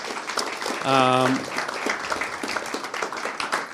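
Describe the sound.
An audience claps steadily, a dense crackling patter that carries on throughout, with a brief sustained voiced call rising above it near the start.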